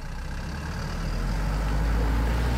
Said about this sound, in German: Punkt 9.35 Uhr fährt der Bürgerbus am zentralen Omnibusplatz am Meldorfer Bahnhof ab. Ein weißer Kleinbus mit 8 Sitzplätzen und einer Rollstuhlrampe.